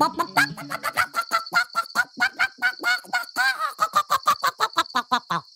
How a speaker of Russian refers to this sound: Курица начала кудахтать, расправив крылья, да так громко, что див не выдержал.